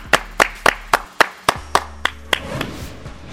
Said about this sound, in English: Clap it up.